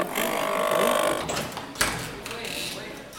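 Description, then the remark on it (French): A printer being repaired at a Repair Café whirs and buzzes steadily for about a second, then clatters and clicks more unevenly, with a background murmur of voices throughout. “J'essaye de faire réparer mon imprimante.”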